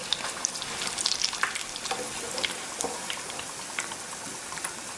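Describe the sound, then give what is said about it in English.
Steady crackling sizzle of battered food frying in hot oil in a pan, fairly loud, with dense pops and spits throughout as pieces are lifted out with a slotted spoon. A few faint clinks stand out briefly, and no one speaks. “And you wanna just hold your spoon slotted like that so all the excess oil can fall back into the pan.”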